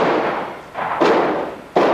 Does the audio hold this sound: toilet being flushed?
no